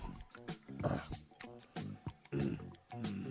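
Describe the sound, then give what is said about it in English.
A voice imitates a man grunting as he eats: a run of short, throaty, piglike grunts and growls in uneven bursts, fairly loud, with no actual words. “And when he put food in his mouth, he used to grunt and make.”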